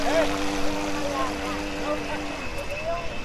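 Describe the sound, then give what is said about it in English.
The small motor of a remote-controlled model boat whines steadily across the water, its pitch wavering slightly as it runs, with faint background voices and outdoor ambience underneath. “He asks me to take a video on his phone of his boat in action, him wielding the remote control.”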